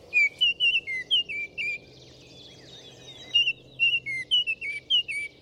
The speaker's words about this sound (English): Biologists believe this bright orange Baltimore oriole descended from a South American ancestor that began migrating north in search of new breeding habitats.